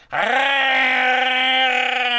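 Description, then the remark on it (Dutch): A voice imitates the straining engine of a Trabant 601 car driven at full throttle: a quick upward swoop into a loud, steady, buzzing drone that holds one pitch for about two seconds. “Zijn we met die trabant vol gas.”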